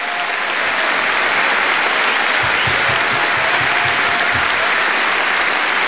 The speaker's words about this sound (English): Applause for the superb …, ladies and gentlemen.